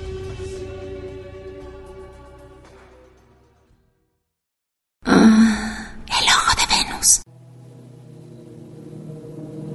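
Two loud, close, breathy bursts, like heavy exhales or sighs, break a short silence, framed before and after by soft sustained tonal sound.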